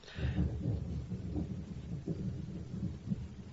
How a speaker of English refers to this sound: And the lightning strikes.